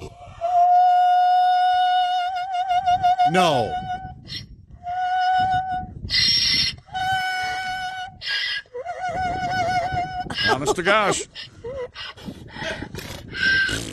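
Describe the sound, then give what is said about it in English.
A donkey named Harriet, who sings for treats and has just been given a treat, brays in a loud, repeated series of long, harsh honking calls that rise and fall in pitch, with a person speaking briefly between them. “This is a donkey who sings for treats.”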